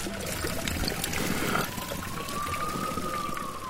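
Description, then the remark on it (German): Steady running water trickles and splashes from the Pouhon Pierre le Grand, an ancient mineral spring fountain in Spa with drinkable iron-rich water, a continuous wash of sound with a faint high whine drifting through the background. “Wir sind in diese Pouhon Pierre le Grand, Peter der Groß, ein uralter Brunnen von Spa. Und man kann diese eisenaltische Wasser trinken.”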